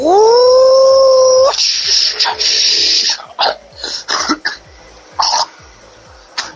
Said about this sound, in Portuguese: Assim, ó, quer ver, ó? Ó, só o barulho da turbina do caminhãozinho subindo Moracema aí, ó.